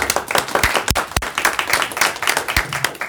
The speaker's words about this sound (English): Please round of applause for her.